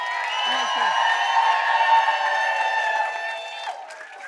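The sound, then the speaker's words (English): A live audience cheers and claps in a steady, fairly loud roar of many voices and hands, holding for several seconds before easing slightly at the end. “Crowd noise for the recording.”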